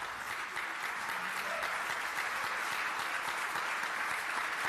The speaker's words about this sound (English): The agreement's been negotiated for some months between the Victorian government and the First Peoples Assembly, a commitment to do things better for Aboriginal people. So the applause there as the treaty is made law and signed.